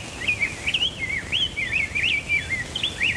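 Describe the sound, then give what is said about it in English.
A song sparrow sings a steady run of bright, warbling phrases and quick trills for several seconds, heard over a faint background hiss and low rumble, with no voices. “And it all started with a song sparrow.”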